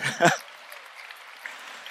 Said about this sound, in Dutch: Ja, je mag voor Daniel klappen.